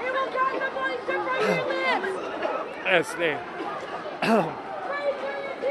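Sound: protest crowd chatter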